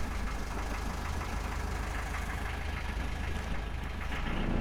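A boat engine idles with a steady, low, knocking rumble, close and continuous for the whole stretch, with no voices over it.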